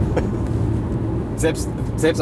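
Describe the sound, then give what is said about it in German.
A Porsche prototype car pulls away with a deep, steady exhaust rumble that stays loud throughout, with a few brief sharper bursts of noise near the end. “Und dann ist er losgefahren und ich habe gedacht, ja komm, filmst du es mal.”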